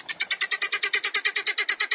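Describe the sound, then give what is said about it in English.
Helmeted guinea fowl call in a rapid, harsh, rattling series of squawks, roughly eight per second, loud with a steady rhythm and no voices. “Helmeted guinea fowl are easily domesticated, but they'll always remain flighty, squawky, birds in a panic.”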